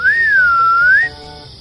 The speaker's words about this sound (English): I didn't know kids could whistle.